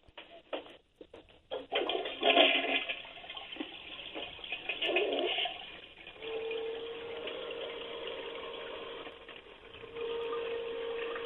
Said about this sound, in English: and turned the water on, when you flush the toilet, if you want me to flush it, I could do it, and you could hear it. But go ahead. Let me hear it.